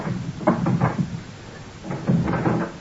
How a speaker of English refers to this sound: If this isn't mortal, if we're all ghosts, why is this so locked? Curb your restless spirit. I will open the door for you.